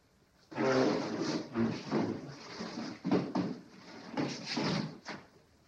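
A couple of chairs are pulled up, scraping and dragging across a hard floor in a series of rough, grinding pulls, with a few sharp knocks as they are set down, then the noise fades.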